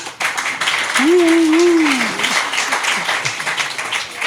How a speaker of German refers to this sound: Ey, da ist er ja. Wenn du möchtest. Ja. Mit einem kleinen Applaus.